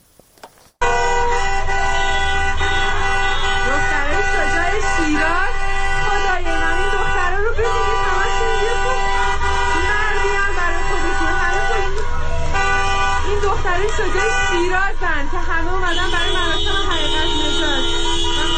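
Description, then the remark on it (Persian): Many car horns blare continuously and overlap in a loud, sustained chorus of honking outdoors on a street in Shiraz, Iran, as citizens join a protest over a cancelled memorial ceremony, with a murmur of crowd voices beneath. “بنابر گزارش‌ها جمعی نیز پس از باخبر شدن از لغو این مراسم به خیابان رفته و با سر دادن شعارهایی دست به اعتراض زدند که شهروندان دیگر نیز با بوق ممتد خودروهایشان به اعتراضهای آنان پیوستند.”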